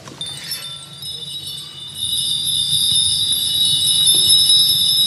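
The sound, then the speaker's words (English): Two small sleigh bells, one a little older and tarnished, jingle and ring together in harmony with a bright, shimmering tone that swells fuller partway through and rings on steadily, with no voices. “It rings in perfect harmony with mine. Together, some just like Santa's sleigh has flown into the room.”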